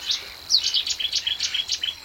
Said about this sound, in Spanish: La barca roza una mata aislada de carrizo. El chirrido continuo corresponde a una buscarla unicolor.